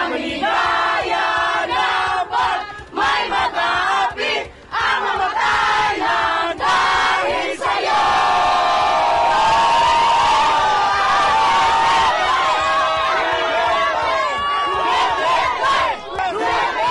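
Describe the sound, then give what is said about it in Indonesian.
A large crowd, mostly Filipino diaspora in the Netherlands, shouts and chants former president Duterte's name loudly in unison outside the detention unit in Scheveningen, The Hague, after the gate closed, rhythmic bursts of many voices rising into sustained cheering and whooping, with no pauses throughout. “Mereka yang umumnya diaspora Filipina di Belanda meneriakkan namanya setelah gerbang ditutup.”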